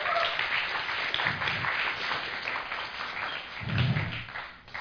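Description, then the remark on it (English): An audience claps steadily for about five seconds to applaud the worship leader. It is a dense, fairly loud patter of many hands with no voices, with a couple of low thumps partway through. “Yeah, you can clap him.”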